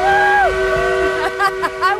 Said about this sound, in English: An actual working steam engine. It's one of the last in the world that burns actual coal. Blows it right in your face. It's an Appalachia facial.